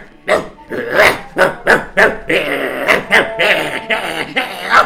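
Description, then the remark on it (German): A person barks like a dog, loud, in a quick run of about ten sharp yaps. The barks come in bursts with brief gaps, and later ones run together more roughly. “Und plötzlich fängst du an zu bellen.”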